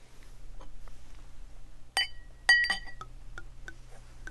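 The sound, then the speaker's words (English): Ruinart champagne is poured into a glass: two bright, ringing glass clinks stand out over a low steady hum, with faint scattered ticks and crackles of fizz before and after. “Okay, we're going to pour.”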